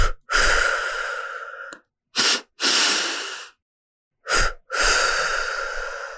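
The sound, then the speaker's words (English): A pulse breath exercise: two quick sniffing inhales through the nose followed by two long, airy exhales through the mouth, repeated in a steady cycle, clear with no talking. “And so that is breathing in through the nose 2 times and then releasing out through the mouth 2 times.”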